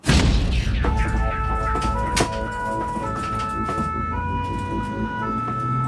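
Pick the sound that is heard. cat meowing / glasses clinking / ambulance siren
ambulance siren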